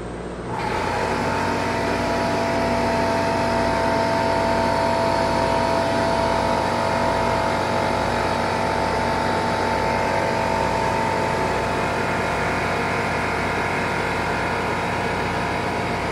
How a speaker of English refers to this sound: Our engine room.